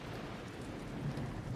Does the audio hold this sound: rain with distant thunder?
yes